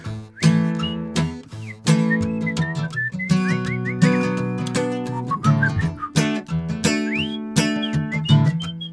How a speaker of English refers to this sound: Stop that whistling, good.